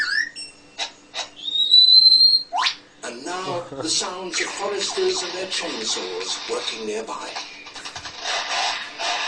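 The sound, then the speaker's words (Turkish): A bird mimics a chainsaw: a few sharp whistles, then a loud, buzzing rasp that revs and stutters in rapid pulses for several seconds. “Ağaç testeresi sesi bakın çıkardı.”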